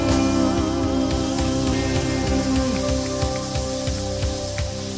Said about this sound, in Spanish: Si va a aplaudir, aplauda más fuerte, porque es para Él, no es para nosotros.